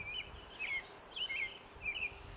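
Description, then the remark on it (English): Red-winged blackbird calls from the left, a series of four short, sharp chirps repeating at a steady pace, fairly faint over a low outdoor rumble. “Oh, and they've got red-winged blackbirds in here too. You can hear those?”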